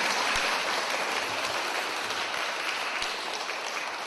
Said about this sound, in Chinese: 大家唔好为我鼓掌，要鼓掌一个系要俾阿弥陀佛鼓掌，阿弥陀佛多谢你。再一个为我哋自己鼓掌，为我哋自己鼓掌，好念佛。